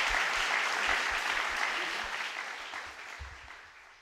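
Steady audience applause, a dense wash of many hands clapping together, loud at first and gradually tapering off over a few seconds, with faint voices mixed in.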